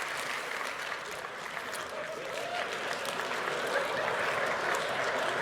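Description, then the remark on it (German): An audience claps steadily throughout after being asked to clap once if they know the performer, a dense, sustained patter of many hands with a faint murmur beneath, holding at an even level without dying away. “Ihr habt das mit den Einzelklatschern schon nicht verstanden.”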